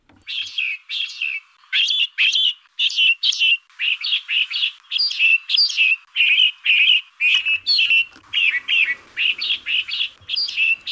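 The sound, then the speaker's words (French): A rapid series of ten bright songs from male finches repeats back to back, each a quick cascade of chirpy notes ending in a flourish, clear with no voices; the songs differ slightly from one male to another. “Je vous fais entendre une série de 10 vocalisations de pinsons.”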